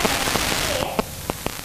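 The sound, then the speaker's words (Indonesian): Steady rain falls in a dense hiss, with scattered sharper drips tapping through it and a faint voice briefly in the background; the wash thins slightly toward the end. “Hujan, Tante. Nggak bisa pulang.”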